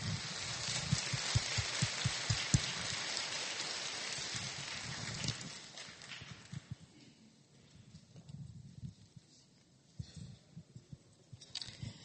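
A church audience applauds in welcome of a guest, with dense, steady clapping for about five seconds, then it thins out into a few scattered claps before fading to near quiet.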